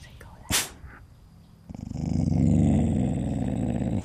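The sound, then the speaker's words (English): A dog growls at night beside a tent on a trail, in a low, steady, vibrating rumble that starts partway through after a brief sharp snap, then continues fairly loud until the end. “A couple of hours later, laying in my tent listening to the night sounds, my dog started growling.”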